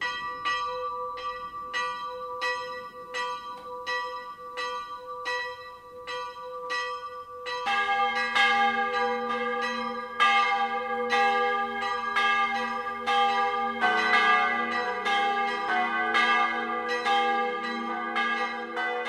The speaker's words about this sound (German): Das Mittagsläuten kommt heute aus der Filialkirche zum heiligen Valentin in Ruppolding-Zell.